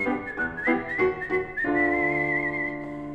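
Someone whistles a short tune: a quick run of six or so clear notes, then one long held note, close and fairly loud, with no talking.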